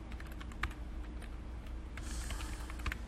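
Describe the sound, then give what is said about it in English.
Steady, rapid clicking of keys on a computer keyboard, fairly quiet, with irregular taps and a few sharper keystrokes over a low background hum; no one speaks. “Where did you start typing?”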